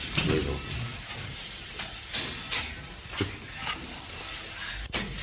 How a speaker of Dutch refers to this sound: Andere deur, doe even open.